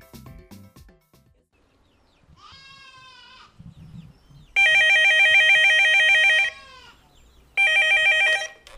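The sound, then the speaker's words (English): A telephone rings loudly in Murondoy, two long trilling rings separated by a short pause, following a brief bleating-like call and faint rustling with no speech. “As we return to Murondoy, BB receives a phone call.”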